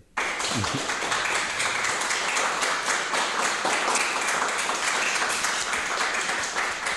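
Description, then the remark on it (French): A crowd applauds steadily to thank an author after a talk: a dense, even wash of many hands clapping at full strength for several seconds, with a brief low voice murmur at the start. “Vous pouvez bien sûr prolonger notre échange en vous procurant les ouvrages de Marc Forestier que j'invite le public à applaudir et remercier.”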